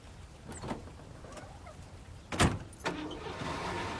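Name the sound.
truck driving away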